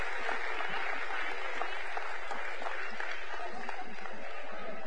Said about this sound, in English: So, with that said, all the youth and all the kids 11 and under are dismissed with a big old round of applause out the back end. Amen?